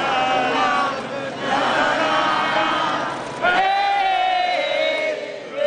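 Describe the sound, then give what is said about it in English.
A large outdoor crowd at the State House grounds in Columbia, South Carolina, watching the Confederate flag taken down for the final time, cheers and shouts continuously, many voices overlapping in a loud, steady roar with rising whoops and yells, briefly dipping before swelling again. “A crowd was there to see it happen and to say goodbye.”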